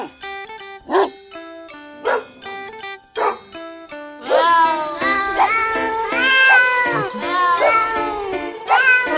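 Cat meows pitched into a bouncy musical tune: a few spaced meows over steady chime-like notes, then a dense run of rising, wavering meows carrying the melody, loud, with no talking.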